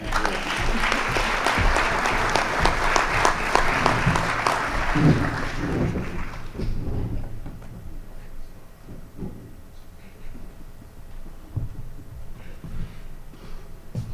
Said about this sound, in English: Well, don't all applaud at once.